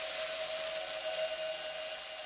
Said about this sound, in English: The meat, a choice cut, strikes the pan and erupts into white noise.